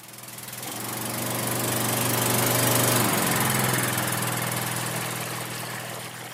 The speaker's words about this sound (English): A generator-powered water tanker pumps water into Agnes Agio's drum in Juba's Nyakron area.